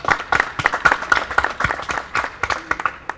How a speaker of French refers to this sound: Des applaudissements également pour notre technicienne qui fait un très bon travail.